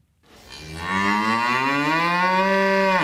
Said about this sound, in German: Eine Kuh macht Mu, viele Kühe machen Mühe, heißt es.